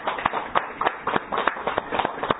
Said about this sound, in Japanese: 今日は家内の誕生日、66歳ですので台所で今朝ごはんしておりますので聞こえると思いますから拍手です。